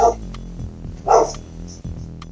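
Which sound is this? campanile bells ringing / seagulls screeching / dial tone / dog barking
dog barking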